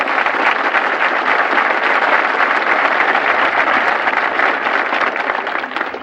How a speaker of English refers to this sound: Now, you men ought to applaud that, because that is right.